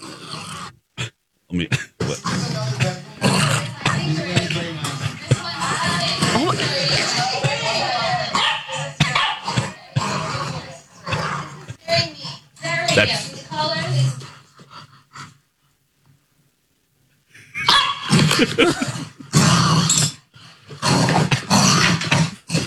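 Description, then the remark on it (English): A puppy growls and yaps playfully in loud bursts while playing with a dog named Biggie, who makes no noise, with yips and panting, a short pause, then more scrappy barking, with voices mixed in. “All of those Which noises are the yeah. puppy.”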